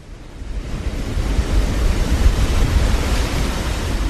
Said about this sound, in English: Right now, only a small amount of water is spilling over the ice dam and running down along the edge of the glacier.